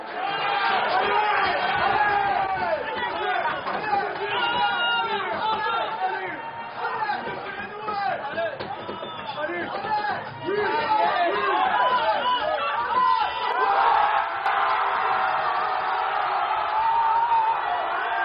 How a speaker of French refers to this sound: À l'avant du bar, les anglophones vibrent à leur manière. À l'arrière, les francophones et quelques anglophones font résonner leur ferveur. À chaque but du PSG, les cris s'intensifient.